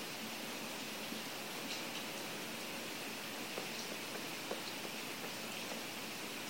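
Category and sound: nature, rain falling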